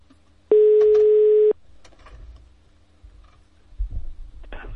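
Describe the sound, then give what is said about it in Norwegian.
A single steady telephone ringing tone, heard while a call is being placed, lasts about a second, loud and clear, followed by faint line noise, low rumbling and a few soft clicks. “Det har vært rettet stor oppmerksomhet rundt Big Bang-eksperimentet i CERN, og i den anledning ringte vi”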